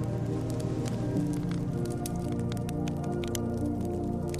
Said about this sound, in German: Drinnen prasselt ein Feuer.